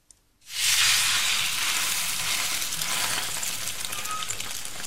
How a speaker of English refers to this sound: Jessica Undye puts a flat piece of dough on the cooktop. She lets it sizzle for a minute and then flips it over.